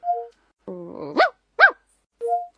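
A short low growl rolls straight into two sharp, close dog barks. Brief electronic two-tone chimes sit at the very start and end, with nothing else around them.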